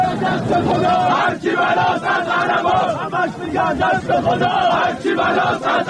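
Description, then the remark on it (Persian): At a Friday gathering by the tomb of Cyrus at Pasargadae, Iran, a large crowd chants slogans loudly in unison, many voices shouting together in a steady rhythmic cadence with brief pauses between phrases, continuing without letup for the whole stretch. “در این میان برخی از حاضران شعارهای علیه دیگران دادند.”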